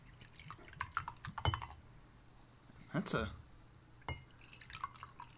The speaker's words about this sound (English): It's a good audible pour to this bottle shape. We didn't say what this is. Oh yeah, we didn't. This is a caramel macchiato soda, which is a thing that exists, apparently.